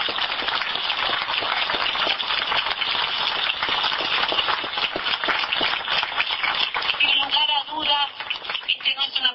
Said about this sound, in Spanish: Nosotros ni nuestro equipo, sino es un aplauso que se lo trasladamos al presidente de la República, que ha tenido la voluntad de que realmente haya una verdadera integración de Cuba y Uruguay sin más discusiones en este plano.